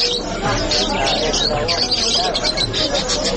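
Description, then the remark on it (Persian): Many canaries sing and chirp at once in a canary-selling shop in Kabul, Afghanistan: a dense, continuous chorus of high, bright trills, with a low murmur of voices and room noise underneath. “دوستان گرامی، کناری پرنده کوچک و خوش آواز است که برخی از افغان ها آن را نگه می دارند.”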